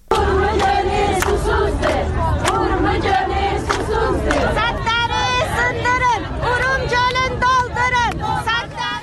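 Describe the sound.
A large protest crowd in front of the General Administration of Natural Resources and Watershed Management, demanding the revival of Lake Urmia, chants slogans in Turkish such as "Urmia is thirsty" and "Break the dams, fill the lake", many voices shouting together in loud rhythmic bursts that fill the whole stretch, continuous with a dense murmur underneath.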